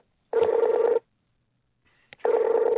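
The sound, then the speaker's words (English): Two bursts of a tablet's electronic call ringtone, still ringing although the caller is already connected, each under a second long with a warbling, pulsing tone, separated by a short pause and a faint click. No one speaks. “You're ringing, but you're on. My tablet thinks that you haven't picked up.”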